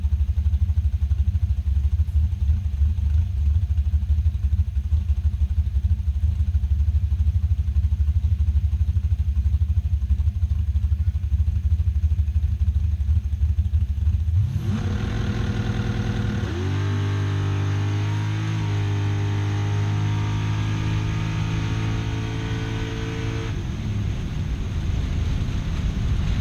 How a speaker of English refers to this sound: Sounds tame, doesn't it? It's just idling. It's just idling. There's a muffler on this thing.